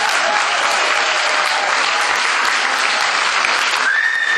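An audience at an evening performance with musicians claps steadily and loudly throughout, a dense, even wash of applause; near the end a thin, high whistle rises briefly above the clapping.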